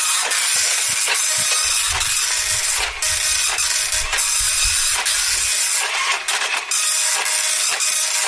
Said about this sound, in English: Quite a slow printer